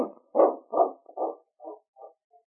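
A dog barks six times in a quick series, the first few loud, then the barks grow shorter and fainter until the last is barely there. No one speaks.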